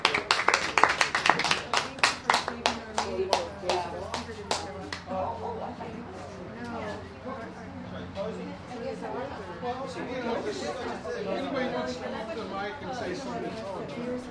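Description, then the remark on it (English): An audience at a meeting breaks into applause, a burst of sharp, rapid clapping for several seconds that quickly fades, leaving a steady murmur of many people talking at once. “A big round of applause, guys.”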